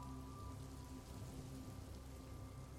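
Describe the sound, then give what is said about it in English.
Steady rain pours down outside an open rooftop door of a city stairwell, a continuous, dense hiss of drops striking a hard surface, fairly quiet and even throughout, with a faint low hum underneath and no voices. “Then notice the rooftop door is open, making the stairwell smell like rain.”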